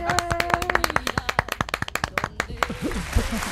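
A studio audience claps in quick, sharp, irregular bursts that merge into a steady round of applause, then thin out as cheering voices and chatter rise near the end.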